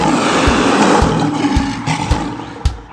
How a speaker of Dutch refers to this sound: Maar probeer die leeuwen nog eens.